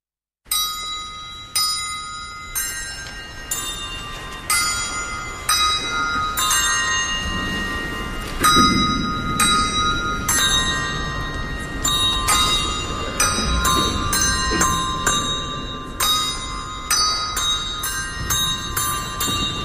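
Bells ring out in a steady, overlapping peal, each strike bright and resonant with long ringing tails that blend into a continuous wash. No voices, just the clanging bells, loud throughout.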